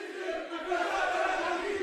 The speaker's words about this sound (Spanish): y tienen sus compañeros un grito de guerra para el equipo que es venga, este. A ver, ¿cómo suena?